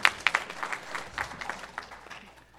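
An audience applauds to welcome newcomers, a burst of sharp claps at first settling into a steady, moderate patter of many hands that gradually thins and fades out.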